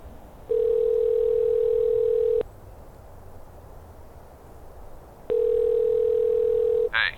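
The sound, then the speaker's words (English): A phone ringback tone: two long, steady electronic rings about three seconds apart, clear, with faint background hiss and a brief click as the second ring cuts off, from a phone call made outdoors high above trees, valleys and rocky ledges. “I pulled out my phone and called Gene.”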